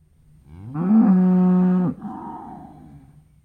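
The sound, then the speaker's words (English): A single cow lows, a loud, drawn-out moo that swells, holds steady for about a second, then cuts off into a softer, fading breathy tail. “"No, that is only a cow lowing," said the little girl.”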